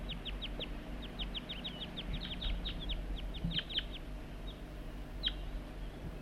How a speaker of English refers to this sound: And that's bird 4-3, and the wild birds are right nearby. I heard the juvenile giving begging calls right near the net site somewhere. The wild birds responding to loud calls of bird 4-3.